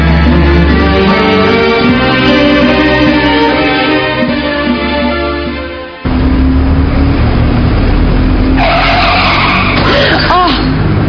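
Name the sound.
car tires skidding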